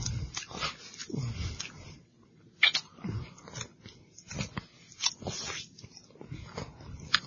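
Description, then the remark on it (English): Someone imitates wet, sloppy kissing with their mouth, a run of irregular smacks and squelches, some louder and sharper than others, with no talking. “I feel like it would be that wet if they kissed.”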